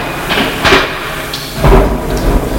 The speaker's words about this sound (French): Des portes qui claquent.